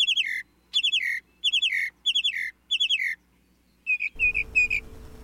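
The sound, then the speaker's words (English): Mockingbird calls repeat in quick, bright bursts, five similar phrases in a steady rhythm, then a shift to higher, sharper notes over a sudden rush of low background noise. “With such extensive knowledge of the great American songbird book, mockingbirds really are the crooners, or croakers, of the bird world.”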